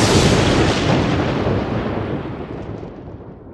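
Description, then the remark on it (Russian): A single loud crash of thunder following a lightning flash, booming, that rolls on and slowly fades over a few seconds as its sharp top end dies away into a low rumble. “Вспышка молнии.”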